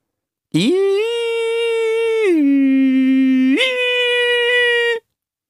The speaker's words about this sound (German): Als er eben wieder nach draußen huschen wollte, ließ ihn ein Geräusch abrupt erstarren. Zunächst hielt er es für eine Sirene oder Alarmanlage. Ein langgezogener, schriller Ton, der sich absurd hob und senkte.